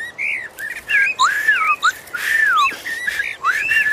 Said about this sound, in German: Ah, da ist ja wieder der Vogelgesang.